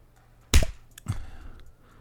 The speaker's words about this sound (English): That's good, but you're dead pale, so I'll need to slap some color back into your cheeks.